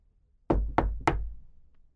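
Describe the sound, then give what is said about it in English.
Three firm knocks on the wooden door of a house after dark, evenly spaced, each a solid thud with a short ringing decay into quiet. “I thought that they looked kind, so I knocked on the door.”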